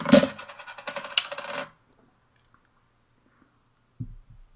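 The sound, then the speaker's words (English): A beer is opened with a sharp metallic crack and a bright, ringing hiss of fizz lasting over a second, followed by silence and a soft low thud. “I'm going to go ahead and pop mine open.”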